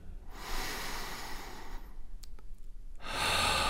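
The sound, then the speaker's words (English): A slow, deep breath drawn in from deep in the belly and then released: a long airy inhale, a brief pause, then a strong breathy exhale, with no talking. “Become aware of your breathing and take a deep breath from deep in your belly”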